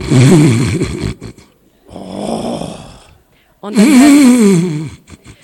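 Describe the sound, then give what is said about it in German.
A voice imitates the loud snoring of men in three drawn-out, rasping bursts, each a rough inhale or exhale with breathy noise, separated by short pauses, prominent. “Und dann hört er einfach nur dieses laute Schnarchen.”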